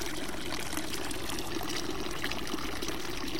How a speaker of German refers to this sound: Und ich finde es richtig schön, einfach nur mal auf das Wasser zu hören. Das ist wie Musik. Oder es ist Musik.